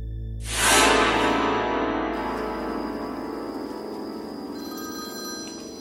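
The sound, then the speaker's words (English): A telephone bell rings out loud in an office of the Hawaiian Police Department at night, a rattling metallic trill that starts abruptly and lingers for several seconds, slowly fading with no voices present. “It felt like any other night in one of the offices of the Hawaiian Police Department when the phone started to ring.”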